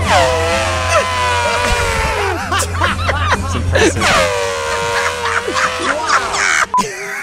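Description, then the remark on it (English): A man's voice imitates an elephant's trumpeting mating call: two long, loud, brassy blares with bending pitch, separated by sputtering, breathy bursts, and ending abruptly. “What would the animal's mating call sound like? So the elephant.”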